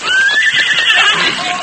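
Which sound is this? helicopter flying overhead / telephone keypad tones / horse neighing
horse neighing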